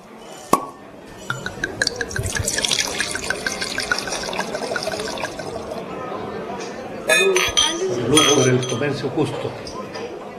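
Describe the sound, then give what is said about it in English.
A glass clinks sharply, then Cabernet Sauvignon wine glugs into glasses with a rising pitch as they fill, followed by more clinking of glassware amid faint background voices, as workers at a Chilean fair trade vineyard celebrate the end of the grape harvest. “As this year's grape harvest drew to a close, for the workers at the Lautaro vineyard, it was time to sit back and enjoy a well-earned glass of Cabernet Sauvignon.”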